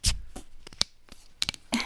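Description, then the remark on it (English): Clicks and scrapes of a can of sugar-free, bright green melon soda being handled and its tab pried, ending in a sharp crack and a short fizzy hiss as it opens. “It's right, green. I'm opening it.”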